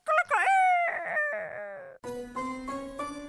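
A loud, close rooster crow rises, holds and trails off over about two seconds, then gives way to a bright musical tune with steady, regular beats.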